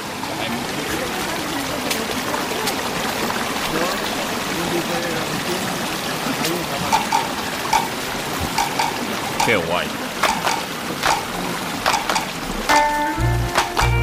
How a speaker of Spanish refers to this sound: Madre, qué agua lleva esto, ¿no? Qué potencia. La vida. Mira. Mira qué fuerte.